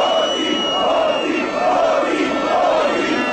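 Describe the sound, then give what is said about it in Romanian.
A protest crowd of over 50,000 people in Piața Victoriei, Bucharest, Romania, chants against corruption on a Sunday evening, voices in unison rising and falling in a steady rhythmic pattern, loud and dense with a constant roar of many people beneath. “În Piața Victoriei, mulțimea a format un tricolor uman, a scandat jos corupția și hoții.”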